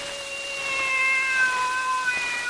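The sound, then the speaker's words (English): A single long, drawn-out meow from a cat kept under someone's coat, steady and fairly loud, with a slightly wavering tone that holds for a couple of seconds, heard on its own with no talking. “What are you doing with that cat under your coat, Weary?”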